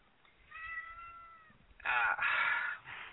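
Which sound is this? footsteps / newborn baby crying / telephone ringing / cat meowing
cat meowing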